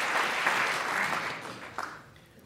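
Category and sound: crowd, audience clapping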